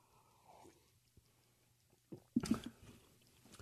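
sipping coffee

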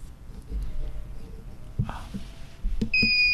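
quiz buzzer sounding

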